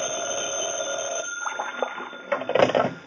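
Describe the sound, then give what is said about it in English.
An old-fashioned office telephone bell rings loudly, a sustained metallic jangle that breaks into a few rattling bursts toward the end, with no voices. “I'd gone back to my office to cool my heels for a while when the phone rang.”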